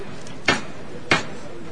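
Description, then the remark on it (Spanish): Two sharp, loud knocks of the hammer knocker on the paso de palio of la Amargura, a procession float, a little over half a second apart, each a crisp metallic strike that rings briefly over a low, steady crowd murmur. “Va a sonar de nuevo el martillo.”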